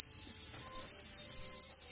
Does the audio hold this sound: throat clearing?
no